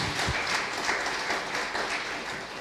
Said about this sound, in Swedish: Och tydligen så fiskar jag efter applåder, det visste jag inte om mig själv.